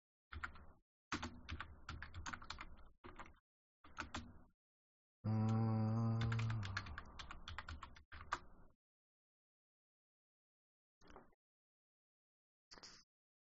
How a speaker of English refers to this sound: let me see when they banned that. My slow typing.